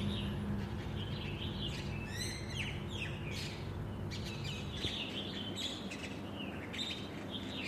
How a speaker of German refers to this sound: Kommt hier gerade noch pünktlich zum Ende so ein kleines Vögelchen angeflogen.